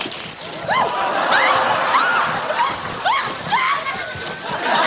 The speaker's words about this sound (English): Oh, I'm walking on a waterbed. This is harder than it looks.